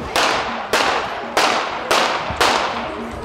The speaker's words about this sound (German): Es sind chaotische Szenen, die sich in der slowakischen Kleinstadt Handlova abspielen. Ein Mann geht auf eine Gruppe Menschen zu, schüttelt ihnen die Hände. Doch plötzlich zieht ein vermeintlicher Passant eine Pistole, gibt mehrere Schüsse ab.